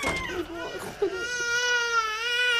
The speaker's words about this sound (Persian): گریه نکن.